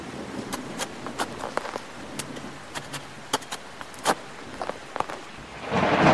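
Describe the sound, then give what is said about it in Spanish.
Scattered sharp drops and taps over a steady hiss of rain, then a loud, rushing wash of thunder and downpour swells up near the end. No one speaks. “¡Maldita lluvia!”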